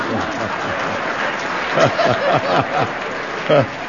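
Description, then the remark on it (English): An audience claps steadily for a few seconds, a dense patter of many hands mixed with scattered chuckles and overlapping voices, swelling in short bursts toward the end. “you know, if you applaud that, you lower his expectations.”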